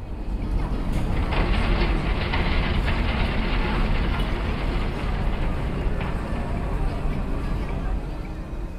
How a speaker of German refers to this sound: und ich notiere, es ist laut auf Ponza. Das Hafenbecken ist ein Surren und Rattern. Motorboote, die ein- und ausfahren, Menschen auf den Piers, Rollkoffer, Fischer, die sich an ihren Gerätschaften zu schaffen machen, die nächste Fähre, die einfährt.